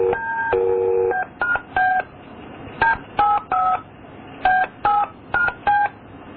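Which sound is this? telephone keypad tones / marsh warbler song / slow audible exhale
telephone keypad tones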